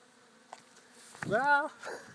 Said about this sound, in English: We've got a bit of a patio, and it's surrounded by lavender. And you can hear all the bees in the lavender.